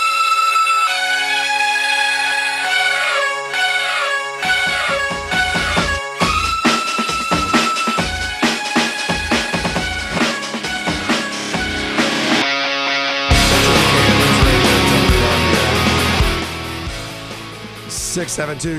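Loud rock music played as bumper music between segments of The Home Show on News Radio WRVA, building from layered melodic instruments into heavy drum hits and a dense, distorted burst near the end, with no talking over it.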